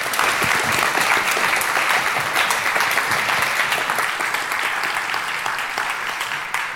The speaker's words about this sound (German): Und genau, erstmal einen großen Applaus, denke ich.